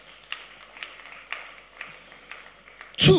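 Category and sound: crowd, audience clapping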